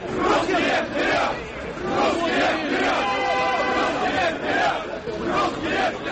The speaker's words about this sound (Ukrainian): У Москві розігнали російський марш. Близько 400 прихильників націоналістичних рухів затримали сьогодні в центрі російської столиці, коли вони намагалися провести несанкціоновану ходу, вигукуючи гасла.